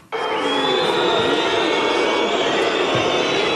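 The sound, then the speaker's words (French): A crowd of just over 9,000 disappointed spectators booing at Stade Bonal after FC Sochaux-Montbéliard lost 2-0 to Châteauroux: a sudden, loud, sustained wall of low jeering voices that holds steady without pause for several seconds. “Les huées qui ont retenti au stade Bonal hier soir, un peu plus de 9000 spectateurs déçus de la contre-performance du FC Sochaux-Montbéliard.”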